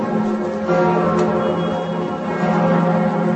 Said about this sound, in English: The bells of Notre Dame rang out at midday in Paris.